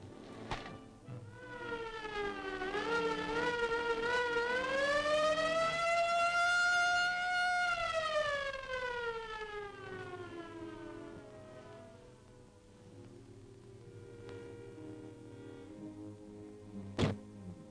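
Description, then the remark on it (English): An ambulance siren wails loudly, its pitch sweeping up to a peak and sliding back down as it swells and fades, with no voices and a sharp thunk near the end. “Okay, I called the ambulance.”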